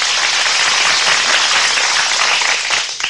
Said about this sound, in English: I must confess that I signal for the applause because looking at it pretty dispassionately, when a guy gets on the air and says, good afternoon, this is the Bill Williams Show, how cleverly can you say good afternoon?